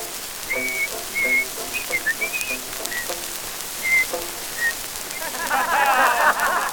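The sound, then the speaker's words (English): Someone attempts to whistle a tune, producing a series of short, halting notes with gaps between them, then dissolving into breathy, sputtering hiss near the end. “And now he goes along like a monkey in the pit, and this is how he whistles that tune.”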